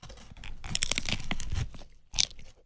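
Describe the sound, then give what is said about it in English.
Crunchy, crackling bites into a crisp breakfast taco made with a blue corn tortilla, bacon or sausage, cheese, a fried egg, aioli and jalapeños, with a burst of sharp crunching followed by a brief pause and one more loud crunch near the end. “So I'm going in on my first first bite.”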